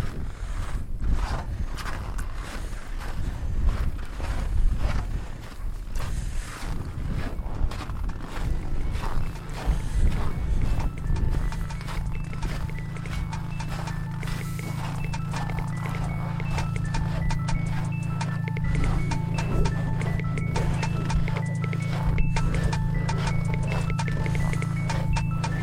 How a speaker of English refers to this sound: That was the sound of boots crunching through the snow at the South Pole.